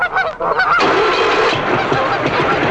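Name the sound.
geese honking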